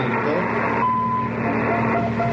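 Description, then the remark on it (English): A brief, thin electronic beep from a walkie-talkie radio, signalling that the other radio has responded, followed by a fainter tone, over a constant loud rumble of engine-like noise and murky background chatter. “And this sound means that the other radio responded.”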